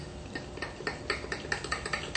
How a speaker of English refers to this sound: So 1 heaping tablespoon, a second heaping tablespoon of cocoa powder. I'll now add 2 heaping tablespoons of organic sugar. I'm going to add just a little bit of water to this. I'll stir it with a fork.